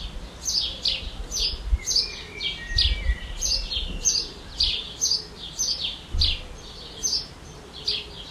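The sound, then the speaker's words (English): A robin, recorded outdoors, sings a steady series of bright, high chirping phrases, repeating roughly every half second over a low rumbling background, with no voices. “I'm going to go out and record some audio. Yeah. And I'm going to play it right now.”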